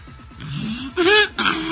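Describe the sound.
A person imitates a donkey's bray on a broadcast: a raspy, wheezing drawn-out tone followed by two louder, brassy honking bursts, with a rough pulsing rhythm throughout.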